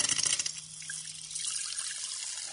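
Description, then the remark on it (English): Carbonated water is poured into a glass to mix with red cabbage solution, with a hissing rush, spluttering in uneven bursts for the first moment before settling into a steady stream. No voices are heard. “Well, it obviously spluttered a bit to begin with, but the colour difference is really obvious.”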